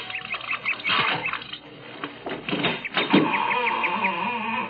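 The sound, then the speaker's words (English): A door in a Victorian-style house, just unlocked with a key, creaks open slowly, its hinges giving a long, drawn-out squeal with rasping grinding bursts along the way, moderately loud, with no voices. “A creaking door, just the right Victorian touch.”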